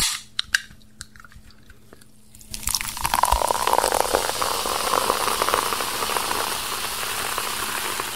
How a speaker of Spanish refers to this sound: No, este sonido me dio una sed terrible. Aquí se escucha cuando alguien destapa una gaseosa y la está sirviendo así con esa espuma así bien rica.